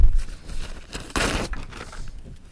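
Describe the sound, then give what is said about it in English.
Tissues are pulled from a soft plastic packet to clean up a food spill: papery rustling and crinkling in short bursts, with one louder, sustained crackle in the middle, and no talking. “I have tissues if I can get them.”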